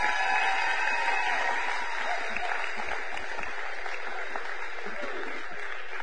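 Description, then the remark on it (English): An audience claps in sustained, dense applause for several seconds, a steady wash of many hands with a few faint voices mixed in; a big round of applause as Kids Church and the youth group are dismissed out the back. “With a big round of applause.”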